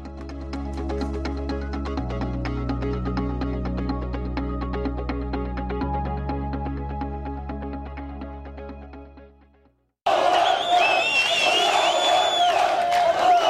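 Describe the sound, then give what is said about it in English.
A steady musical theme plays for about ten seconds, fades briefly, then a loud crowd of hundreds of Palestinians erupts in cheering and shouting in the streets after Israel removed railings and a metal bridge near a contested Jerusalem holy site, with sharp whistles cutting through. “Hundreds of Palestinians have been dancing, cheering, and celebrating in the streets after Israel removed railings and an overhead metal bridge it recently installed near a contested Jerusalem holy site at the demand of Muslim protesters.”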